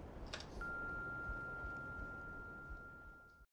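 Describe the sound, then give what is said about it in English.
A single long, steady answering-machine beep holds one pitch for nearly three seconds over a hissy background noise, then cuts off abruptly. “Please leave a message of sorts after the beep. And again, wait for the tone before you leave your message.”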